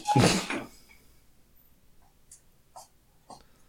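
door being closed

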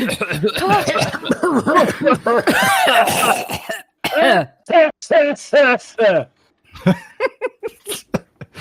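several people coughing

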